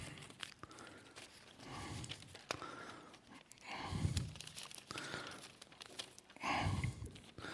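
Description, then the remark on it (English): Rustling and crinkling of a loop of paper being handled, with scattered sharp crackles and a couple of louder, fuller swells of movement. No one speaks. “Here I have a loop of paper.”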